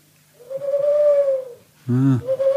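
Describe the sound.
A drummer imitates an owl with a long, steady, hollow hoot, then follows it after a short pause with a lower, breathier hoot. Both are loud, tonal and mid-pitched, with no talking.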